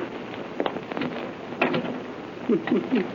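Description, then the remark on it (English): A series of mechanical clicks and rattles, with a sharp metallic clack midway and a quick run of ratcheting clicks near the end, as a key unlocks a chamber door at the head of some stairs. “In just a moment, I'll unlock the door.”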